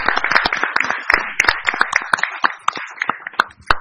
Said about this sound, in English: Yeah, let's give them a round of applause and safe travels.